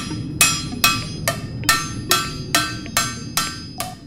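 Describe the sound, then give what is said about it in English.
Steady hand hammering on metal, the heated edges of a pressed skillet being hammered out by hand to remove deforming: eight sharp, ringing strikes about half a second apart, each with a bright metallic decay, over a low rumble. No one speaks. “Once the pan is pressed, then there's still some deforming that occurs around the edges, and so we heat it up and then hammer that out by hand.”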